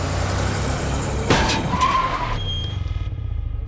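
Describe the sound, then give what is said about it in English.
A car engine rumbles, then a sudden loud crunch of impact is followed by a brief tire squeal, leaving the engine idling and a thin high whine ringing afterward: a chauffeur-driven car accidentally crashing into a woman riding a bicycle. “A car accident. As the story goes, Hans' chauffeur accidentally crashed into Saari on her bicycle.”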